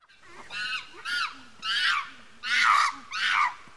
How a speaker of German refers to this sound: Ja, Affen. Affen, ja, sehr gut.